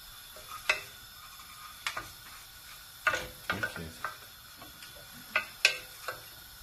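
A utensil stirs a thick paste of packet sauce mix and milk in a small saucepan, making a series of irregular clicking scrapes and taps against the sides over a soft, steady hiss. No one speaks.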